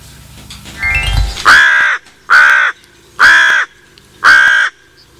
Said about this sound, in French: Alors là, c'est un corbeau qui nous faisait l'annonce, mais c'est la Pie Bavarde.